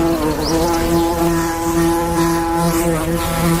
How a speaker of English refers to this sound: You're all hearing this, right? Is it not just something in my head right now? No. Okay. Bees buzzing. Bees in my house. I don't know what's going on.